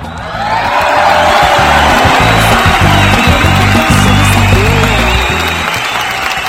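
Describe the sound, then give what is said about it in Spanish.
An audience breaks into sustained applause for all women at the close of March, women's month, on the programme Generación X: a dense wash of clapping that swells quickly and holds steady for several seconds, with faint murmured voices mixed underneath. “Y para todas ellas, en este cierre de mes de las mujeres, el mes de marzo, que Generación X destinó a todas las mujeres, creo que se merecen un fuerte, fuerte aplauso, público conocedor.”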